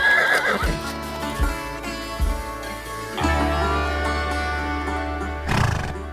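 A horse neighs with a loud, trembling whinny that falls in pitch. Low thudding hoofbeats and snorts follow, and a second, shorter whinny rises near the end. No one speaks.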